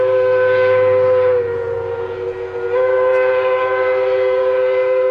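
A steam train on railroad tracks blows its whistle steadily and loudly for several seconds over a low mechanical rumble, dipping briefly in the middle before resuming. No one speaks.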